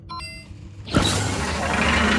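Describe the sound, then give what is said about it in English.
A brief electronic beep tone, then a sudden clunk as a sliding door from a TV show starts moving, followed by a steady, rough, rattling, clackety slide that stays loud and noisy to the end. “You want to play one of those door sound effects again? Those are short, right? Because it's clackety and janky.”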